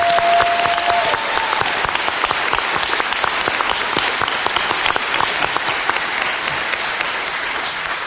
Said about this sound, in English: So can we get a round of applause for all the Australians who are doing that?